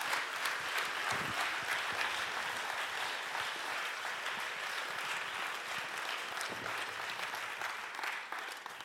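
Sustained audience applause, a dense, steady wash of many hands clapping at an even loudness for several seconds, with no one speaking over it.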